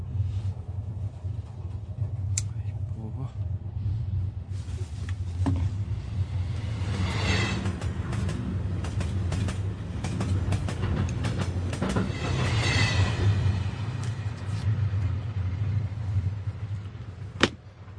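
A steady, heavy rumble from inside a moving train, with rattling clatter and track clacks swelling in waves and a sharp knock near the end. No one speaks.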